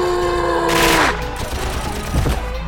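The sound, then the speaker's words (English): A loud rush of gunfire erupts on the deck of a barge over a steady droning hum, then gives way to a chaotic, crackling clatter with a few sharper hits near the end. “The deck of the barge erupted with gunfire, screams, and shouts.”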